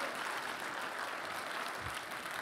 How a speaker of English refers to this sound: If you want to be part of that kind of church, again, give the Lord a big round of applause in this place.